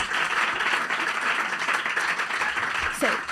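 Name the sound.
applause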